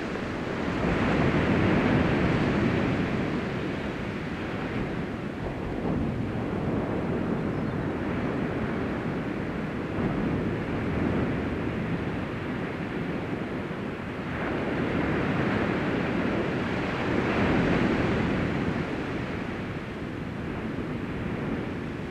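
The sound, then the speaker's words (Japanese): Steady ocean waves wash in a continuous roar, swelling and receding slowly every several seconds, moderately loud, with no voices present. “それでは波の音に耳を傾けながら、一番楽な姿勢をとってください。”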